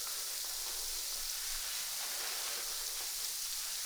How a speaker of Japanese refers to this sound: 君の髪の毛の中でちっちゃな泡がたくさん弾けてるんだよ。